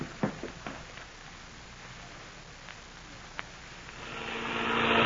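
airplane engine in flight

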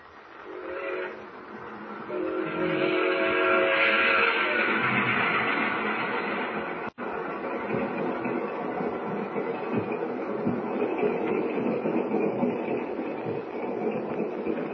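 train rolling with whistle

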